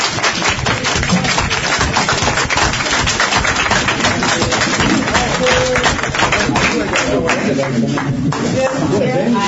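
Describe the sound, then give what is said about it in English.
Sustained audience applause for a departing chair, a dense steady wash of many hands clapping at once that carries through without a break, loud, with some voices mixed in underneath. “Could we have another round of applause for our departing chair?”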